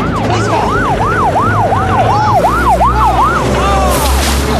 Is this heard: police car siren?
yes